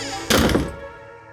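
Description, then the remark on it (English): A door slams shut with one heavy, booming thud, as 18-year-old George Lucas Jr. slams the door on his father, then a low rumble that fades over about a second. No voices are heard. “George Lucas Jr. was 18 years old when he slammed the door on his father.”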